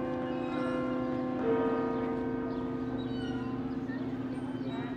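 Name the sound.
church bells ringing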